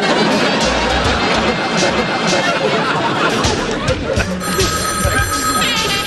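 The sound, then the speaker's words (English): A telephone rings out over a dense, noisy background of crowd chatter, the ringing growing clearer and more tonal toward the end, loud. “They're calling me.”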